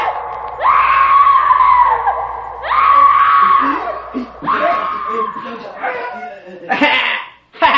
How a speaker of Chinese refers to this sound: 当耶稣在会堂中宣讲天国的福音的时候，突然被恐怖的尖叫声打断了。